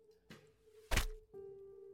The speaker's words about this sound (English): As this happens, you hear a twanging thud.